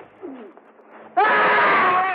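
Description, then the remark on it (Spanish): A blacksmith lets out a loud, sustained angry yell after getting caught in bushes while chasing someone, bursting in suddenly after a second of quiet rustling and holding strong to the end. “El herrero se traba en unos matorrales y grita enfurecido.”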